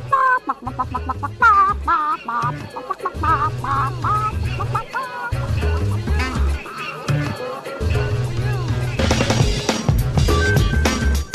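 A hen clucks in quick, busy bursts over a steady low musical backing, with other voice-like sounds mixed in; the clucking stays loud throughout.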